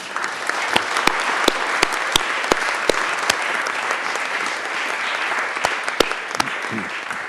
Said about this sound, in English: There is your statement, and I think you should applaud yourselves.